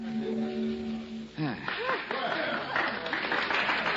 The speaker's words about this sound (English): Ah, thanks, ladies and gentlemen, for your kind applause.